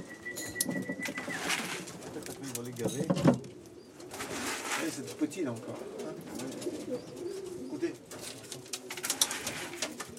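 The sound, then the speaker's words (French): Several pigeons kept by a pigeon-fancying family in Denain, France, coo in low, throaty rolls throughout, fairly loud, while a person speaks briefly to them over the continuous murmuring. “Parler aux pigeons, bon, on n'attend pas une réponse bien sûr, mais bon, on aime leur parler.”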